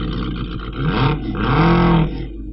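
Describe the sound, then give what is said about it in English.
Two drag racing cars roar loudly down the strip, their engines surging in two rising, revving bursts over a constant low rumble, with no voices; John Whitmore's car, Dragonfly, wins in the left-hand lane by two car lengths. “Both cars, these drivers, so professional, moving exactly at the same time, reading the lines to an nth degree, with Whitmore taking it in the left-hand lane by two car lengths.”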